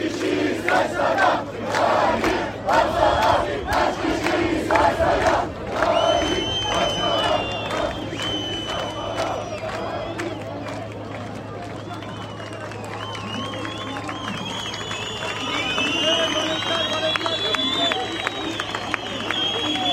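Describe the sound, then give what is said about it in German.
A large crowd of demonstrators shouts and yells continuously as they push forward toward a water cannon, voices overlapping in a dense roar, with sharp whistles and high cries rising over the din in the second half and a steady low hum underneath. “Die Demonstranten gehen jetzt wirklich ganz nach vorne an den Wasserwerfer.”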